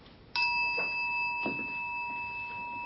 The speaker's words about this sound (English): Awareness is that which allows us to know. You hear the sound of the bell.